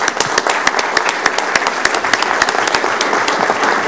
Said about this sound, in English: So a big hand of applause, a round of applause for all those that helped out. So thank you.